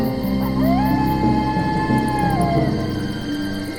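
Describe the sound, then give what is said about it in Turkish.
A lone wolf howls at night in a forest in one long, wavering note that rises, holds steady for a couple of seconds, then slides back down, heard over a dense, low rumbling background. “Kurtlar etraflarında ulurken korkudan tir tir titreyen Hansel ve Gretel ay doğana kadar ateşin yanından ayrılmamış.”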